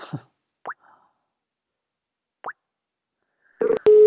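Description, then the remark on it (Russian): Two short, rising plopping blips spaced well apart, then a brief clatter and a loud, steady telephone dial tone that starts abruptly and holds to the end, as a dropped phone call is being redialed. No one speaks. “Видимо, может быть, связь прервалась или что-то с телефоном. Все нормально, сейчас мы восстановим соединение, не беспокойтесь.”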